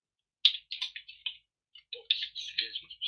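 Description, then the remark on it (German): Keys clatter on a computer keyboard in quick, uneven bursts, a short pause breaking two runs of typing. The taps are fairly soft, and no one speaks. “Das ist eine deutsche Tastatur?”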